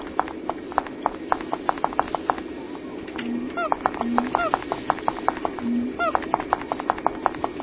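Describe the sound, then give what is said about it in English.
In a video game, a monkey's quick, light footsteps patter in a steady, even rhythm as the player runs after it to catch it with a net, while a few short squeaky chirps, the monkey's noise, and a low hum break in partway through. “So now we have to try to catch the monkey. And I'm following his footsteps.”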